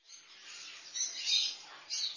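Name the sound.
bird chirping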